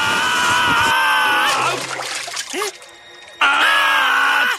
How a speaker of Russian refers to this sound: С этими словами гусеницы сделали пару прыжков и оказались на склоне, откуда как на санях съехали в воду.